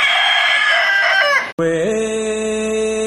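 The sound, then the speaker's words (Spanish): A spotted (pinto) rooster crows loudly, two long harmonic calls back to back with a brief break between them, with no talking over them. “Y aquí está mi gallo pinto, y aquí está mi gallo pinto.”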